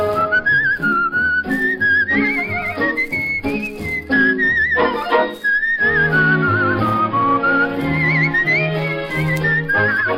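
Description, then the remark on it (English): A bright, high penny whistle plays a lilting, continuous melody over full band accompaniment with steady bass and chords, loud throughout. “Just blow your penny whistle, and the world begins to dance.”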